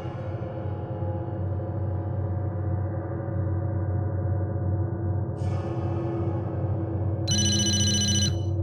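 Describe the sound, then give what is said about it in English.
A single short burst of a telephone ringing, bright and electronic, arrives near the end over a steady low hum, preceded moments earlier by a brief hiss. “The phone rang, and I was disoriented.”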